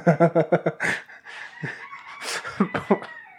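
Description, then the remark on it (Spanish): A rooster crows, opening with a quick series of sharp clucking notes before drawing out into a long, loud call, then ending with a few more short bursts. “Hay un gallo aquí haciendo el gallo.”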